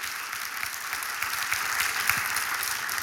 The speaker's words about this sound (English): Come on, give the Lord a hand clap right there.